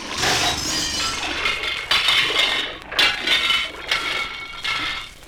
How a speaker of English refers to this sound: It washed the dishes, sometimes. And because it was what it was, it threw a dish every once in a while.